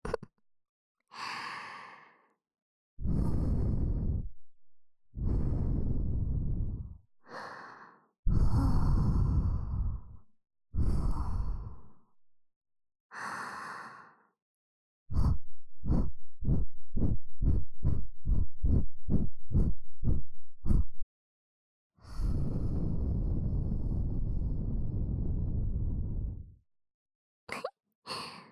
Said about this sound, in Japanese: 吐息で耳よくくすぐりの刑だよ。